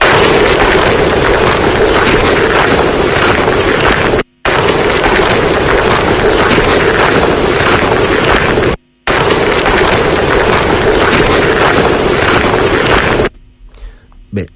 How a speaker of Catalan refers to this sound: Jo personalment només sent trepitjar damunt de la grava i jo personalment me sap molt de greu, però dic lo mateix que sempre he dit, no sent res amb aquesta.